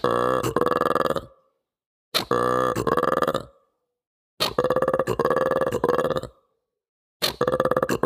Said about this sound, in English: And lastly, I think I would say that one of my favorite animals was the mantled gereza, which is a monkey that can make a very, very guttural, croaky kind of sound. It sounds like a frog.